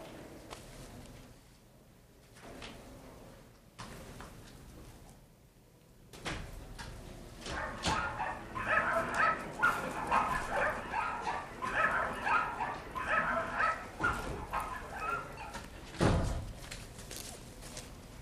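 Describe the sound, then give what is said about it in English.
Dogs being dunked in a tub of diluted insecticide normally used for livestock bark, yelp and whimper, quiet at first and then a loud, busy stretch of overlapping cries with clattering noise, ending with one sharp bang. “dunking dogs in a tub of diluted insecticide, normally used for livestock”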